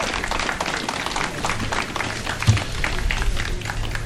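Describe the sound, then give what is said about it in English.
Steady, dense applause from a crowd for a band: many hands clapping at once in a continuous crackling wash that holds an even, fairly loud level for the whole stretch, with no voices. “So let's give them another round of applause for our band.”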